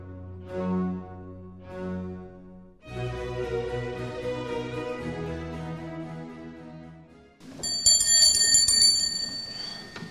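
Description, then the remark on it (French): A small bell rings brightly and repeatedly near the end, signalling the start of a session of the Académie des sciences morales, following a few deeper, sustained chime-like tones. No one speaks. “Nos séances de l'Académie des sciences morales commencent toujours par la petite cloche qui signale le début de la séance.”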